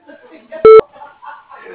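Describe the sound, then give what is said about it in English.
A single loud voicemail beep from the Wasco answering message, a short steady electronic tone lasting about a fifth of a second, with faint murmured talking before and after it. “Just leave a message at the tone.”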